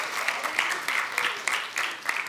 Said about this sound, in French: Hey, on peut-tu les applaudir?